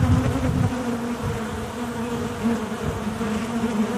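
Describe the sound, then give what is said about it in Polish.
A dense, steady hum of many honeybees buzzing inside a hive, a continuous low drone with a warm texture and slight swells in intensity, no voices present. “Te dźwięki mogą być różne w zależności od tego, co się w ulu dzieje, jaka jest kondycja pszczół, co pszczoły mają w tym momencie, jaki temat w ulu przerabiamy, tak jaki jest na tapecie, czy to jest trójka, czy to jest wymiana matki”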